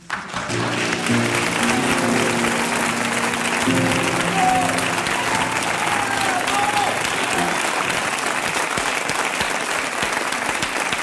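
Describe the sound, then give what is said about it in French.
A dense wash of clapping from a large crowd fills the whole stretch, steady and loud, with faint voices and a few whoops rising through the applause, on a France Inter radio programme. “Allez les mères, avant de tirer la chasse, un conseil comme ça, ça vaut bien un déluge d'applaudissements, non ?”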